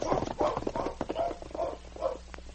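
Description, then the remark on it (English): Horses' hooves clip-clop along a trail in a steady, uneven rhythm of repeated knocks, moderately loud, with no one talking, as Sergeant Preston and King, with Ned Small and Jim the constable, ride toward Ned's cabin. “Meantime, Sergeant Preston and King, with Ned Small and Jim the constable, rode the trail toward Ned's cabin.”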